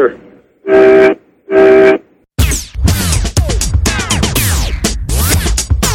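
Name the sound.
truck horn honking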